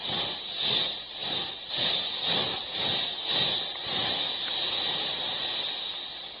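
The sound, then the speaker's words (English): A steam train hisses loudly, its rhythmic chuffing pulses slowing and giving way to a steady, continuous rush of escaping steam as it comes to a stop. No voices are heard. “Then comes a terrible moment. The train stops.”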